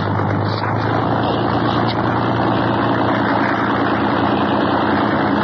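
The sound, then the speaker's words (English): A boat engine rumbles steadily at idle, a loud, continuous low drone with a faint higher whine layered on top and no break for several seconds. “It's that godforsaken roaring call of man.”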